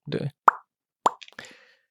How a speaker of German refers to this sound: Nur für das Plopp-Geräusch. Alles fürs Plopp-Geräusch.